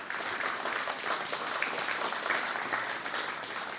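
Steady audience applause, a dense, even patter of many hands clapping at a constant moderate loudness for several seconds, with no voices standing out.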